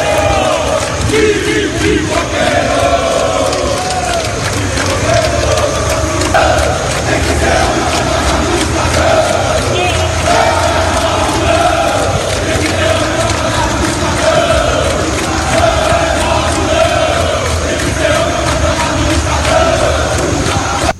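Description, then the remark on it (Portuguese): A large crowd of Bahia football supporters chants loudly and continuously in unison in protest at the Fonte Nova stadium, a dense wall of voices with a steady rhythmic cadence filling the whole stretch without pause. “Fonte Nova, vamos ouvir de novo, YouTube da BNews TV, manifestação da torcida do Bahia ontem”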